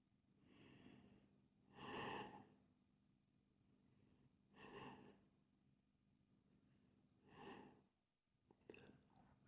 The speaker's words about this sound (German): Und dann atme ich wieder ganz tief und vollständig aus.